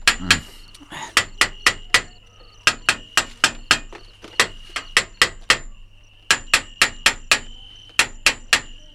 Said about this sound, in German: was wollen Sie denn mit dem Hammer? Den Käfig kontrollieren. Ich will wissen, ob die anderen Stäbe in Ordnung sind, sonst bricht der Gorilla sofort wieder aus, wenn er morgen in diesen Käfig kommt.